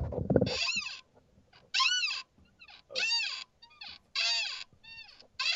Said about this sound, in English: Sorry, it was still a little squeaky. You guys, this is what advertisers pay for, listening to my chair.